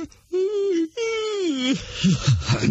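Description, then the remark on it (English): Two long, drawn-out voiced yawns, fairly loud, each sliding gradually downward in pitch, followed by a person starting to talk. “And I might add that yawning is highly contagious.”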